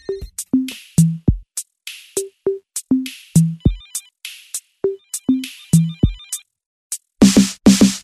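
A phone ringtone plays loudly and without pause, a descending electronic melody repeating over and over, turning into a denser, harsher burst of ringing at the end. No one speaks.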